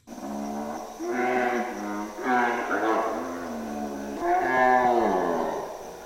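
lion roaring at night

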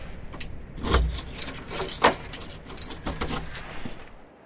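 keys jangling

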